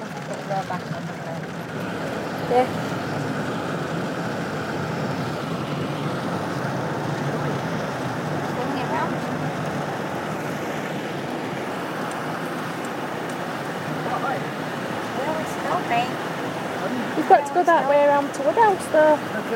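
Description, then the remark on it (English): Heavy rain from a thunderstorm pounds steadily on a car being driven home, heard from inside, a dense, continuous roar that stays loud throughout, with a brief muffled voice or tone rising near the end. “It's thundering, or it has thundered”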